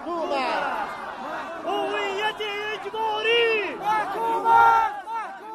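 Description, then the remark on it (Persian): A crowd of Sadat protesters shouts together in the streets of Bamiyan, Afghanistan, chanting slogans such as "forced identity is condemned," many raised voices overlapping in loud, rising and falling cries that swell toward the end before cutting off. “قوم سادات در سرکهای بامیان آمدند و فریاد زدند که هویت اجباری محکوم است.”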